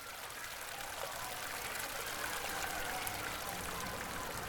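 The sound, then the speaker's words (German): Steady babbling of the Crooked Creek river along its bank, a continuous bright rushing and trickling that stays even throughout, moderately loud, with no voices. “Im Sommer tobt das flinke Mädchen mit seinen Schwestern und Brüdern am plätschernden Ufer des Flusses Crooked Creek.”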